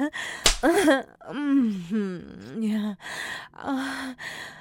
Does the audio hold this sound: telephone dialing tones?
no